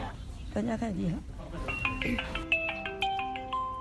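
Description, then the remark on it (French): A brief stretch of voice gives way to a WeChat voice call ringback tone, heard as RFI's Beijing office tries to reach a missing delivery courier's relatives. It is a bright, stepping electronic melody of clear sustained notes, loud, playing on steadily to the end. “La sonnerie d'attente de la messagerie vocale chinoise WeChat.”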